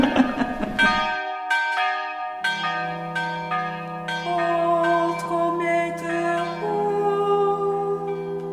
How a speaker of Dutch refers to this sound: Het is altijd weer tijd. Altijd gaat die klok weer. U bent soms wel eens boos op die klok. Ja, stoute klok.